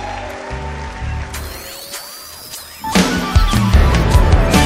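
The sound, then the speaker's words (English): Sustained musical tones with sweeping pitches fade into a swell of audience clapping in praise of Jesus, which enters partway through as a dense, loud patter and keeps building to the end. “Would you clap your hands this way?”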